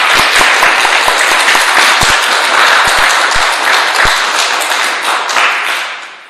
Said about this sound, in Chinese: 也给更多愿意出来服侍的肢体，我们一个鼓励的掌声好吗？